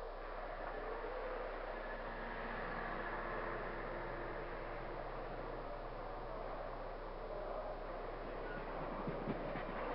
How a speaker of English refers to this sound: Wasn't that your train that just left?